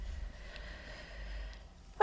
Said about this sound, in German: Ich muss niesen